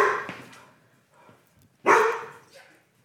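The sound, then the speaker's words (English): A dog in a roadside studio, being wrestled by a man, barks twice, loud and harsh, with a quiet pause between the barks, then gives a shorter, softer yelp. No one speaks over it. “He's now he's wrestling the dog in the roadside studio here.”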